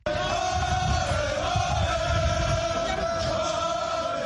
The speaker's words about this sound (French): C'est avec des cris de victoire qu'Ousmane Sonko a été accueilli par une immense foule